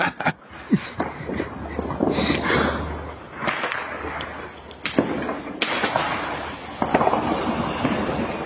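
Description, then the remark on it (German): Firecrackers thrown into a canal go off: a handful of sharp, loud cracks and pops at irregular intervals, punctuating a steady background of rumbling noise. “Jetzt schmeißen sie Kracher in den Kanal.”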